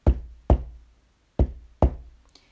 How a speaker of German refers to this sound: Wer ist's? Wer klopft da an sein Haus? Ein Hase hockt im Schneesturm draus.